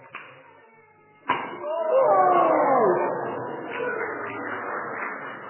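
A sharp, sudden pop from a giant confetti cannon breaks a quiet murmur, followed by a swell of excited voices cheering and whooping that gradually settles into steady chatter.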